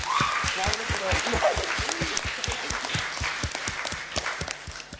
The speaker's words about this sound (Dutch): Alsjeblieft een davende applaus voor deze 2 sprekers.